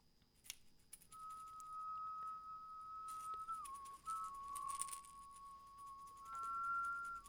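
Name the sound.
people whistling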